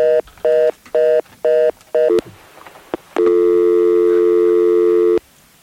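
Tones from a malfunctioning phone line during a call-in: five short, evenly spaced beeps of a busy signal, then a click and a long steady telephone tone lasting about two seconds before cutting off. Loud, with no voices.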